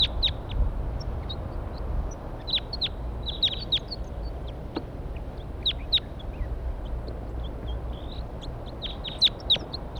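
Wild birds perched in a pine tree above where a net is being set up call repeatedly in short, sharp high-pitched chirps and squeaks, scattered irregularly over a steady low rumble of background noise, with no talking.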